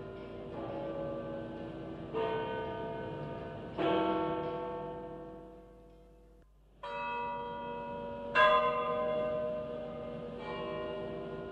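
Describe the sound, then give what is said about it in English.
The large bells of St. Peter's in Rome toll slowly to announce the death of Pope John Paul I in September 1978, about six heavy strikes spaced a couple of seconds apart, each leaving a rich, humming ring that overlaps the next, with no voices present. “The actual sound of the bells of St. Peter's tolling to let the world know the newly elected Pope was dead.”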